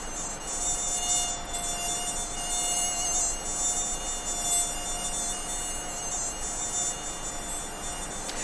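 A mosquito's thin, high-pitched whine drones steadily for the whole stretch, its pitch wavering slightly, with no voices present.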